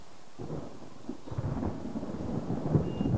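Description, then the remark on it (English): Heavy rain pours steadily down a window outside a hospital room while low thunder rumbles and swells beneath it, growing slightly louder toward the end. No voices. “As rain pours down the window outside, she lies unconscious in the dimly lit room.”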